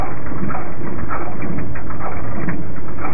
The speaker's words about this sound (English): And that sounds to me an awful lot like an old truck or a washing machine that's on its way out. And that is the seismic response, or the response of the ground vibrations to this lava lake, the sea of lava